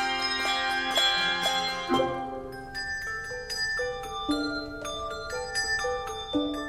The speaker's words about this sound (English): A handbell is different from, say, a dinner bell in that the clapper is fixed so that it only moves in a north-south parallel. It doesn't sort of clang in any direction like a dinner bell might.